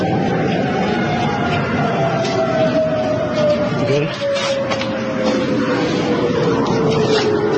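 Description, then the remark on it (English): An air raid siren wails in a long, slowly falling tone, steady and prominent over a dense wash of loud background noise, with faint muffled voices mixed in. “Listen to those air raid sirens.”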